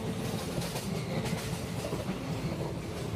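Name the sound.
train riding on rails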